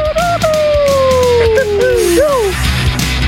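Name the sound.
wolf howl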